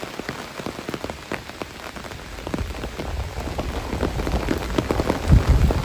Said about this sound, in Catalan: Però la pluja d'aquesta nit ha estat poc més que simbòlica, 9 litres per metre quadrat, segons el pluviòmetre que el nostre home del temps